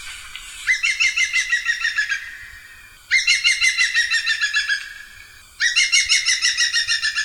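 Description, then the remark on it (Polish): Three loud, ringing bursts of a green woodpecker's laughing call, each a rapid run of repeated notes lasting over a second, with quiet pauses between. “natomiast zawsze im mówię, bo to przed chwilą słuchaliśmy dzięcioła dużego, żeby posłuchali jako wynagrodzenie, że no nie słuchają stukotu, dzięcioła zielonego.”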